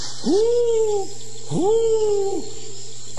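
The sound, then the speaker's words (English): An owl calls twice, each hoot a clear, drawn-out tone that rises then slowly sags, spaced about a second apart, fairly loud over a faint steady hum. “It's the owl again. Disturbing my sleep.”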